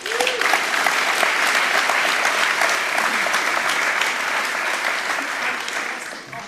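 A crowd claps steadily and loudly for several seconds, a dense wash of many hands that holds strong throughout and tapers off slightly at the very end.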